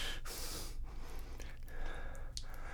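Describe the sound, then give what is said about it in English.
A father snoring, muffled, with rough, breathy snorting sounds over a steady background hiss and no talking. “I can hear your dad snoring.”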